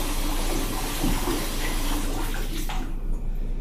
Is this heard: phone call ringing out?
no